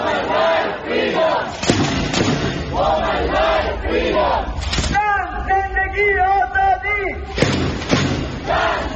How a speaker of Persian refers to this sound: پارلمان و وزارت امور خارجه انجام شد و حاضران علاوه بر پشتیبانی از زندانیان سیاسی از جمله عباس دریس، شعار نه به اعدام و زن زندگی آزادی را فریاد زدند.